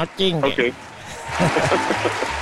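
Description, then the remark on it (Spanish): A voice speaks briefly, then a burst of applause for a caller rises and continues as a steady wash of clapping, with talking carrying on over it, live on the radio show Meteoro Track. “Un aplauso para ti, mi compadre.”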